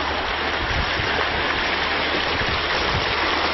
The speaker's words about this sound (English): And this is the video of the creek. This is what people have requested, to just see this beautiful creek.